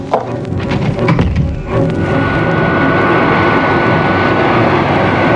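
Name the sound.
aircraft engine roaring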